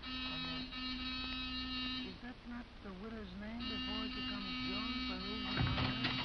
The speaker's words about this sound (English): Give the buzzer a punch.